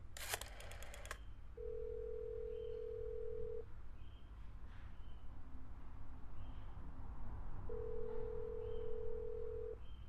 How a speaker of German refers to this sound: Es ist keiner ans Telefon gegangen.